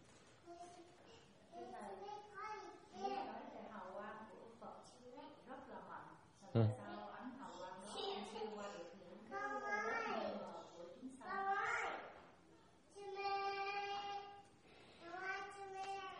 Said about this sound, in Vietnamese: nó còn đây có nhiều đứa chứ, nó ồn nhỏ này nhiều không sao ấy, đừng ngại. Cái tự nhiên không sao ấy, con nít nó la là tốt. La như vậy cái khí nó bốc ra, khí đó nó bốc, nó la để nó toát cái khí ra là tốt, không sao ấy.